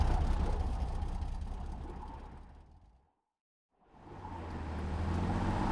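Heavy engines of two tow trucks and an armed 4x4 rumble low and steady as they creep toward a blockade under the Arizona sun, with two motorcycles flanking them. The sound fades out to near silence halfway through before the droning motors swell back in, with no voices.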